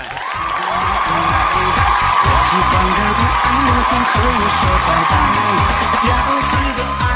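A loud, steady burst of clapping and cheering from a crowd runs for several seconds without a break, with a rhythmic low thumping underneath.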